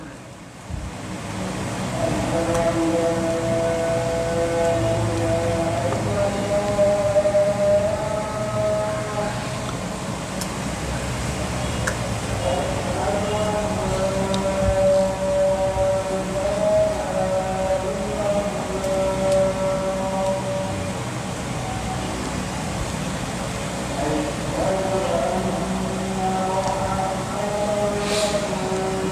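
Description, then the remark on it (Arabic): A call to prayer rings out as a long, sustained chant, its wavering melodic voice rising and falling in drawn-out phrases over a steady background hum, with no talking. “المسألة بعدها بس بعد الأذان.”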